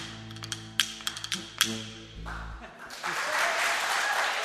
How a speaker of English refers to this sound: The teenage girls and boys from Rahat start clapping along right away, though it's a fair bet they've never heard any of these songs before.